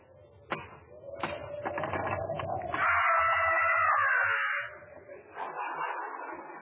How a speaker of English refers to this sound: I'll knock, you scaredy cat.